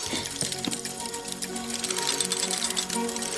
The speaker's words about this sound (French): Regarde, il continue! L'automate se remet à marcher.